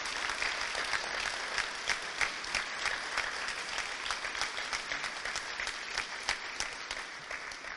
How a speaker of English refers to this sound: If we could just give those groups a round of applause for their service that they do.